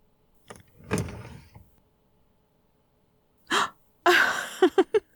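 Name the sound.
drawer sliding open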